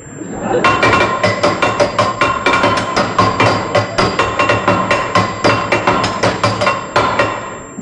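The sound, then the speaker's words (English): A hammer bangs rapidly and repeatedly on a metal tap that will not turn off in a lodge, dozens of loud clanging strikes in a fast, slightly uneven rhythm, each with a bright metallic ring. “Give me the hammer.”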